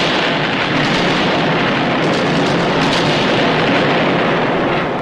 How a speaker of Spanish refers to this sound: Bien, después de los truenos, rayos y centellas,